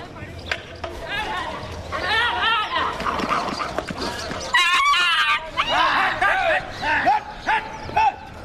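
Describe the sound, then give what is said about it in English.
A small aggressive dog barks and snarls in rapid, overlapping bursts, loud, as it attacks a cow lying on the ground, amid a chaotic scuffle with men shouting as they come to defend the cow. “The dog just attacked the cow while it was lying down.”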